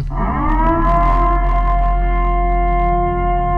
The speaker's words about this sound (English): The purge. What is that? The purge siren. Oh, the purge. Yeah. So I thought it was some kind of siren.